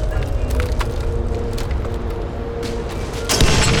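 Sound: explosion boom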